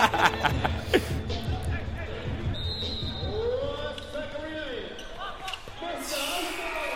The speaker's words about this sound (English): I mean, and you hear the crowd. That's Drew League right there. And that's early Drew League too, because you know it's going to be more packed once the NBA players start coming.